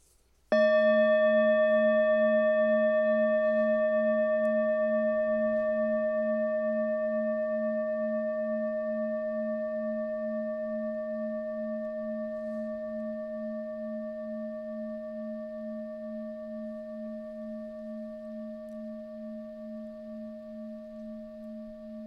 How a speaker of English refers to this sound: Here is a bell. Take 3 deep breaths.